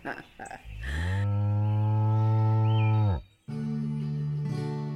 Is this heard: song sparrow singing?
no